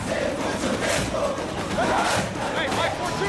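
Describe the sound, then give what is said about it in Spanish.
A large stadium crowd roars and cheers in a dense, unbroken wall of noise, with scattered shouting voices rising and falling throughout the few seconds. “Hay diferentes maneras de ir a un estadio.”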